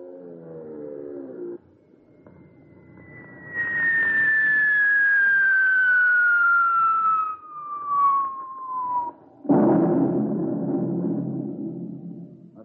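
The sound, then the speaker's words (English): A V-1 flying bomb (buzz bomb, doodlebug): its pulse-jet engine gives a low, harmonic droning buzz briefly and cuts out, followed by a long high whistle sliding steadily downward in pitch, then a loud, sudden rumbling blast that fades out. “Hey, that's a buzz bomb. It's a doodle bug, all right.”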